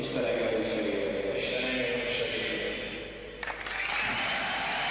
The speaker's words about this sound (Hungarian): Kitörő ovációval fogadta a közönség azt a pillanatot, amikor Mihály Árpád a jégkorongpályán lett magyar állampolgár.